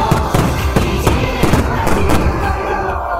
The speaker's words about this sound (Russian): А завершилась церемония открытия 20-минутным салютом.